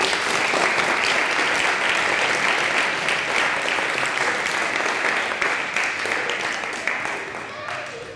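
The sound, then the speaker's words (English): A concert audience applauds the choir, folk orchestra and volunteers steadily, a dense wash of many hands clapping at fairly loud, even volume that gradually thins and softens toward the end. “So a round of applause for all of you.”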